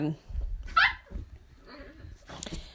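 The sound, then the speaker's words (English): Dogs roughhousing together: a sharp, high yelp breaks out early, followed by low growly rumbles, snuffles and brief scuffling noises, then a softer squeaky whine near the end. “The dogs are playing with each other.”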